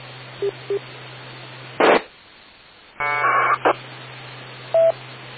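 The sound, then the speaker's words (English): Bursts of electronic modem data tones come through a narrow, hissy radio channel over a steady low hum during a radio net's check-ins: short beeps, a harsh static blast, then a warbling multi-tone chirp and a final beep. “Okay, WI2M recognizing somebody has a modem going.”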